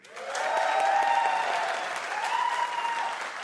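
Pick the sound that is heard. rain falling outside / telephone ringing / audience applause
audience applause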